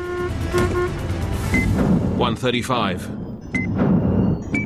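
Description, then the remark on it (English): A car engine roars and revs in rising, sweeping tones as Berruas's car swerves onto a main road and powers away while the pursuing car is blocked by a stationary bus, set against dense, loud street and traffic noise with brief horn-like toots. “By luck, Berruas is able to swerve onto the main road and power away to safety, while his father's pursuit is blocked by a stationary bus.”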